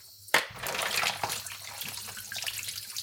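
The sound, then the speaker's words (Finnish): A cold-water tap bursts on suddenly and runs in a steady, broad hiss of water, with irregular splashes and small knocks as mussels are rinsed one by one under the cold stream. No one speaks. “Mulla yleensä palelee tässä kohtaa jossain vaiheessa sormet, koska se tehdään kylmässä vedessä, mutta se kylmä vesi on tärkeää sen takia, että nämä simpukat elää todella jäätävän kylmässä vedessä”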